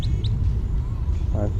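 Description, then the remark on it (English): Two quick, high chirps from a goldfinch passing overhead, heard in quick succession at the start over a steady low rumble, followed later by a brief low voice-like sound. “Goldfinch flying over.”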